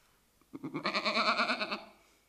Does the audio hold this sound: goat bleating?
yes